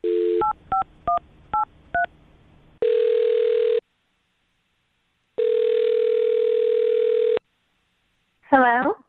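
A quick run of touch-tone dialing beeps over a steady dial tone, followed by two long, even ringback tones separated by silence, then a brief burst as the line connects, as a call is placed on the Brooke and Jubal in the Morning radio show.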